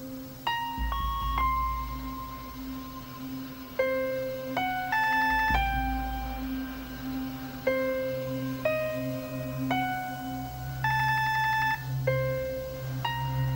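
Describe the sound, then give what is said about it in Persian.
A phone rings with an electronic melodic ringtone, a short tune of bright tones repeating about every four seconds, loud, over a low background hum with no voices. “الو گوشیو بردار، میدونم که خونه ای، گوشیو بردار.”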